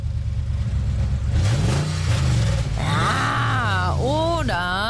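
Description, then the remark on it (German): A powerful V8 engine idles with a low, steady rumble, then revs up repeatedly, its pitch sweeping up and dropping back in several loud bursts. “Ein schöner, kräftiger V8-Motorsound ist mein Lieblingsgeräusch.”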